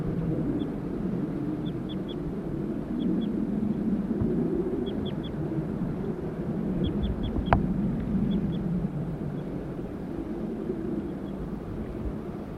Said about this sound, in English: Stop. Start recording, the birds are calling more loudly now. Male, female. Male. Male. Male.